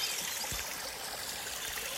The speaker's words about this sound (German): Ja, jetzt setzen wir uns noch kurz an einen Bach im Schwarzwald im Turmbachtal.